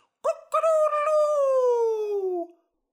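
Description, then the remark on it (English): A voice imitates a crowing chicken: a brief clipped note, then a long, loud, wailing cry that slowly slides downward in pitch before cutting off. “And the chicken cried.”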